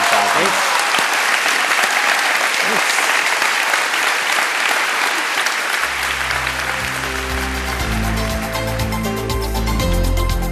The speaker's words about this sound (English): Can we have a round of applause for both Hemant and Sean?